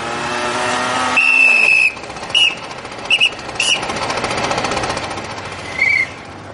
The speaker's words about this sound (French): C'est censé être un 50cc, ça. Et ça fait le bruit d'une tronçonneuse